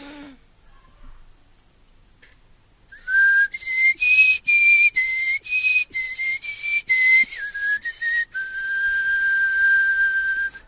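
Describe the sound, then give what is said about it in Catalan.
After a brief quiet moment, someone whistles a film theme melody: a string of clear, separate notes rising and falling, ending on a long sustained tone. No one speaks. “Idò, bé, potser millor fer una mica de xiulada i a veure si et sona el que vaig a bufar.”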